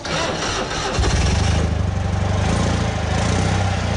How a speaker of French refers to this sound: Et comme vous pouvez l'entendre, une deux chevaux, ça démarre au quart de tour.